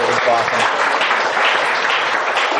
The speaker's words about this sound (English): so I'll give him a round of applause for that.